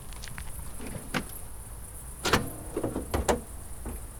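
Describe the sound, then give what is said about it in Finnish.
A door is opened, with a series of sharp clicks and clunks from the latch and handle spread over a few seconds against a low background hum. No one speaks. “Odottakaa, niin avaan oven.”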